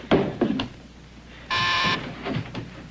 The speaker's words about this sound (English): Bob, doorbell. I heard it.